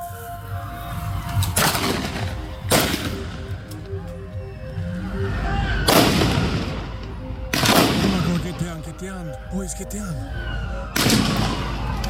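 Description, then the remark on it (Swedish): Several sharp gunshots crack out at irregular intervals, coming closer, loud and echoing, over a murmur of background voices and steady low ambient noise. “Skotten kommer allt närmare.”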